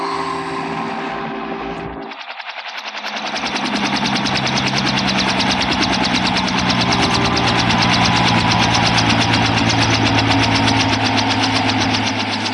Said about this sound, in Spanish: El helicóptero se posa en tierra suavemente.